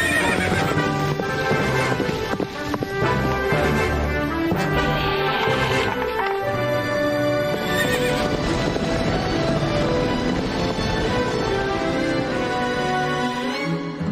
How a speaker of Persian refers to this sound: بیاین این اسبا رو برسونیم به آبلین.